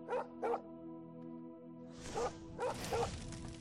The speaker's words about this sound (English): That is a bad puppy.